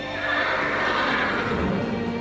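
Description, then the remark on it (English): A horse rearing up lets out a loud, drawn-out neigh lasting about two seconds, a strained, harmonic whinny that wavers in pitch, with no talking over it. “And then all of a sudden, they feel this like urge to like go up on like their legs and they let out this like huge like roaring kind of sound.”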